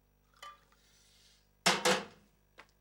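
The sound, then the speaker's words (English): In a kitchen, a light clink, then a soft, steady trickle of hot milk being poured from a saucepan into a mug for about a second, followed by two loud metallic clanks of the saucepan being set down and a faint final tick. “In the kitchen, geeky 30-something Alan pours himself a mug of hot milk from a saucepan.”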